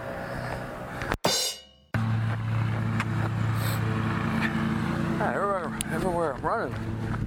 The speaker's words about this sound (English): Darn leaf blowers. Can't really escape it.